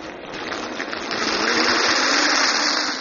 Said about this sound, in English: He put his long nose in the lake and sucked it full of water.